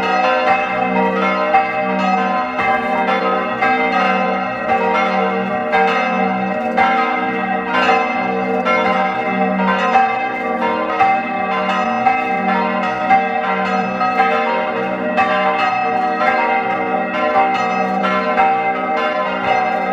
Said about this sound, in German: Es ist 12 Uhr. Sie hören die Glocken der Pfarrkirche zum heiligen Ulrich in St. Ulrich am Pillersee.